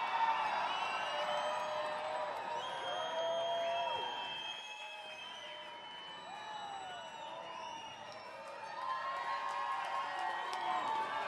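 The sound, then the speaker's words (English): A crowd at the Ridgeway Concert Series cheers and whoops without pause for about eleven seconds, calling a performer back for one more song, encouraged by the mayor. Overlapping shouts and high rising calls; the noise stays steady and loud, easing slightly in the middle before swelling again. “That's Mayor … encouraging the crowd to call him back up.”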